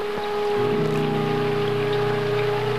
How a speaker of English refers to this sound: They try to light a fire, but it's raining too hard.